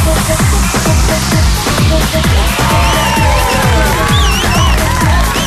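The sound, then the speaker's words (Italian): Loud crowd cheering and applause with whistles, layered over a steady thumping beat of deep, falling bass hits, sustained and energetic throughout. “Applausi, ragazzi, veramente applausi, grazie, grazie, chiunque tu sia, grazie.”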